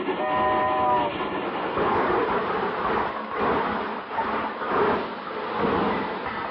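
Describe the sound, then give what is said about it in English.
A train, the presidential special, pulls into a station, rumbling steadily, a brief horn-like tone sounding at the start before the rolling clatter of rail cars carries on, swelling and easing in waves with no one speaking. “Why, when the presidential special pulled in, I'm the guy who stood on the platform singing, "….”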